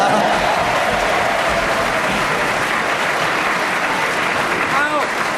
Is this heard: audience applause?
yes